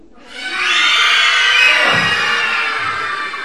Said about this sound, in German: So, alle Kinder, stell dir vor, deine Mama hat im Hosenbein eine Maus. Wie laut schreist du?